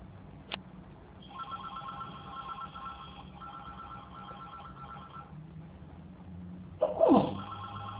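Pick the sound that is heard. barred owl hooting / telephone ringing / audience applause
telephone ringing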